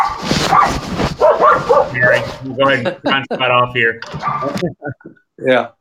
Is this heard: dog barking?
yes